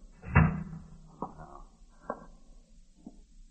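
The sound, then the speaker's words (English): A door swings shut with a solid thump, followed by three lighter clicks and knocks spaced about a second apart as it settles. No one speaks. “Let me close the door.”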